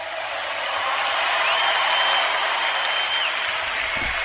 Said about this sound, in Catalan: Bueno, ya pueden dejar de aplaudir, ¿eh? Que es Zapatero, ¿eh? Pueden dejar de aplaudir, por favor. Así me gusta.